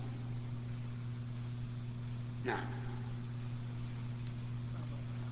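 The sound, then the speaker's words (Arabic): A car engine idles with a steady, low droning hum that stays even throughout, joined midway by a single brief knock over a background of constant hiss. “أنا نسيت واحد يقول فيه سيارة.”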